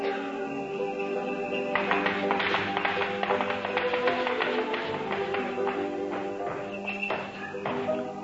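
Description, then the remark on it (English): A run of irregular thumps and knocks, like someone moving around on a roof overhead, rising over a steady sustained musical tone and continuing for several seconds. “What's that? There's somebody up on the roof.”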